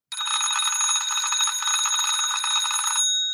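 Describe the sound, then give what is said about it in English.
An early 1900s mechanical wind-up doorbell, metal striking metal, rings in a rapid, continuous metallic rattle for about three seconds, loud, then stops abruptly with a brief ringing decay. No voices are heard. “This particular bell that I'm going to ring is from the early 1900s.”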